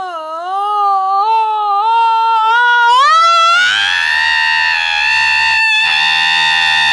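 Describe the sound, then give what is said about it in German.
An alarm clock, plugged into a wall socket, lets out a scream-like wail: a loud, wavering cry that climbs in pitch, then settles into a harsh, sustained shriek for several seconds, with no talking. “Mensch, ein Wecker, der schreit.”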